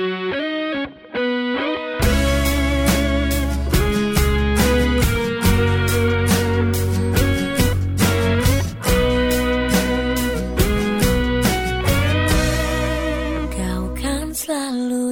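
A pop song intro plays, opening with a brief soft passage before a full band with driving bass and bright, distorted guitar kicks in, loud and steady, with no singing yet.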